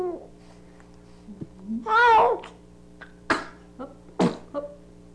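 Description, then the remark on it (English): A baby being bathed sneezes twice, two short sharp bursts about a second apart, following a brief drawn-out infant vocalization, with a steady low hum in the background. “Two sneezes.”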